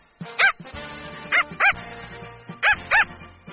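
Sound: dog barking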